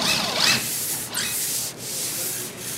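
Sanding by construction workers renovating the visitors' clubhouse before the Red Sox home opener, a steady gritty scraping in long back-and-forth strokes with brief pauses between passes; no clear hammer blows stand out and nobody speaks.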